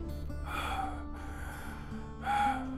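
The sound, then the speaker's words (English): A man breathes heavily and laboriously while walking at a normal pace at high altitude in thin air, with about three gasping breaths for air in a steady rhythm, the last one loudest, over a low background hum. “he's kind of hunched more over now and breathing heavily and just doesn't have the same vigor that he has in his step normally, as you probably hear him start breathing heavily more than you ever have before in just a normal walking pace like this.”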